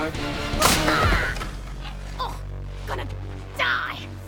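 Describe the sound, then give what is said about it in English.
A loud, sharp crack of a wooden plank smashed over a woman's back upstairs, one hit with a brief rumbling tail, followed by softer grunts and gasping breaths. “Upstairs, Saul smashes a plank over Carol's back.”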